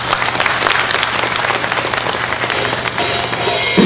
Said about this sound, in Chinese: 可以， 可以哈，掌声。